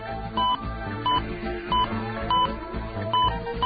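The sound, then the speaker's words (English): A telephone is dialed after a dial tone: a series of about six short keypad tones beep at a steady pace, each a brief bright pulse over a busy low background hum, with no talking. “Okay, and we can dial with impunity because nobody knows what these beeps actually are.”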